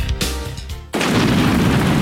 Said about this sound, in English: Ah, Igor, don't you just love the sound of thunder?